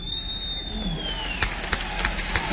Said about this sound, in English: Don't throw any more of them firecrackers, because that's silly.